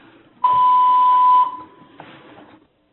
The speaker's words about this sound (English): And again, I do apologize. We have a building-based tone that is occurring. I apologize for the interference with the communication.